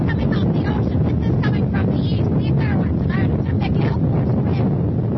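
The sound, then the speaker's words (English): Loud, roaring hurricane wind gusts of about 40 to 45 miles an hour buffet the microphone continuously outside the Dunes Manor Hotel, a dense rumbling blast with whistling streaks, overwhelming throughout. “This is the wind.”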